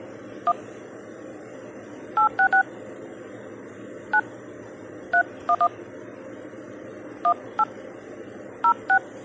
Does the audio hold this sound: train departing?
no